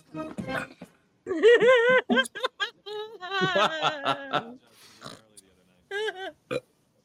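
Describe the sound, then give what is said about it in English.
A person burps up a mushroom: a loud burp with a long, croaking voiced tone, followed by a few shorter guttural vocal sounds and brief noises, then quiet. “Oh, I just burped up that mushroom.”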